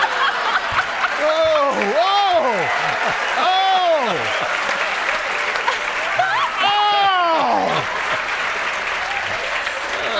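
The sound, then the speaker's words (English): Loud, steady audience applause fills the whole stretch, with several rising-and-falling whoops and cheers from the crowd breaking through the clapping. “Well, how often does Peter get that kind of applause?”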